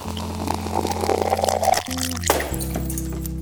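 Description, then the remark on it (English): A cocktail is poured steadily into a glass, a continuous splashing trickle over a sustained tonal hum, with a brief pause and shift in the pour partway through. “Is that the sound of a cocktail being poured, or is that the sound of what happens after a few cocktails?”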